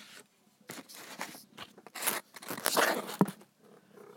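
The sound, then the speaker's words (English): A cat named Pink crunches dry food from her dish in a series of short, irregular bursts, crisp crackly bites and scrapes with brief pauses between them, fairly quiet overall. “She's eating it, and that's all right.”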